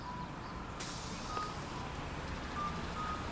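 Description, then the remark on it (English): An eastbound city bus at Bloor and Dufferin, its brakes letting out a sharp burst of air hiss over a steady traffic rumble, with faint electronic beeps in the background. “There's the eastbound bus.”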